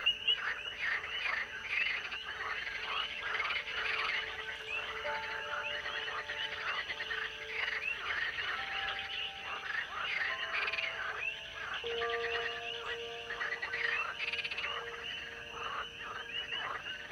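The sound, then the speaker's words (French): A dense chorus of frogs croaking continuously, many overlapping calls blending into a steady, pulsing wall of sound with a few clearer tonal notes standing out, at moderate volume throughout. “La pleine lune devient le signal d'un immense concert de croissement ou d'une ponte collective favorisant la fécondation.”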